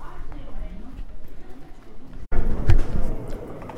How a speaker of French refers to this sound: Ambiance de marché